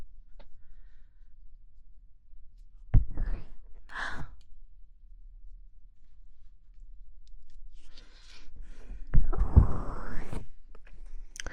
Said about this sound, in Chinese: 是这样的，不是说哈欠传染人吗？我这样打哈欠，然后你们也就跟着。